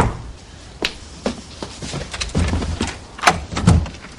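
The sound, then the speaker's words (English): A door being opened, with a few sharp clicks and knocks from the latch and handle amid soft rattling and shuffling. No one speaks. “Hey, open the door.”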